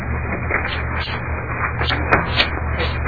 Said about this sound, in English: I've never heard so much paper shuffling.